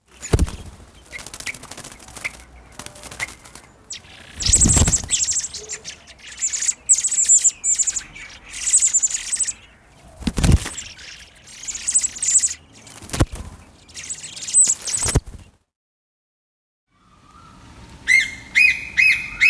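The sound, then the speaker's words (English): Blackbird chicks and their mother call in repeated high, thin chirps and tweets with occasional squawks and fluttering, with a brief pause before a final burst of song. “And while we're on the subject of introduced species to Australia, here's some blackbirds and chicks and their mother, recorded by Andrew Monty.”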